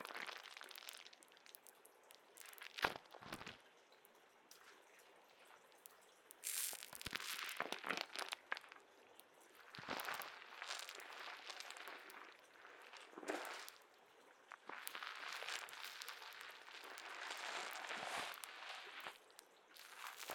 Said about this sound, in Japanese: じゅわーっと潰れる泡の音と、シュワシュワした感覚でお客様のお顔がふにゃーってしてるのわかりますよ。